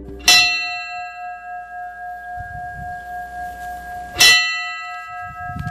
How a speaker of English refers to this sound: The bell tolled Sunday for the victims, families, and survivors of 514-22.